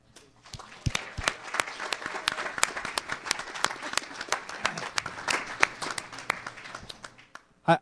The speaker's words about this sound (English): I keep hearing these women cheering, and I just wonder if they realize that I'm actually happily married.